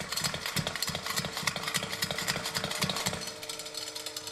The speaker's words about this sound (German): Weißt du, was das ist? Ein Brummkreisel. Ein Brummkreisel, wenn ich ihn anschiebe.